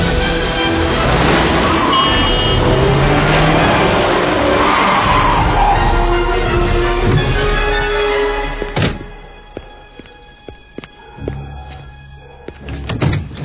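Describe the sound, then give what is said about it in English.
A car roars along at speed with rushing road noise and squealing, skidding tires for several seconds, then a sharp thud cuts it off, leaving quiet clicks and rattles. “I'm not Ilya, and I won't slow down, not until you listen. No! How dare you! Stop this car immediately!”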